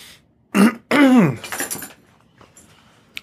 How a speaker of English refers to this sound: He had to clear his throat for that one.